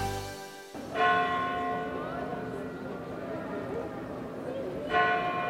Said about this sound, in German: So klingt es, wenn in Santiago de Compostela hier direkt auf dem Platz vor der Kathedrale die Glocken der Kathedrale pünktlich zur Sendung von uns um 18 Uhr schlagen.